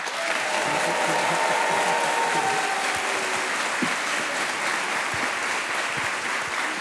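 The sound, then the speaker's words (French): A large crowd in a full hall in Nexon applauds steadily, a dense, unbroken wash of clapping at a strong, even level with a faint murmur of voices and a few brief cheers mixed in. “Super ambiance, salle comble pour vous accueillir, vous applaudir.”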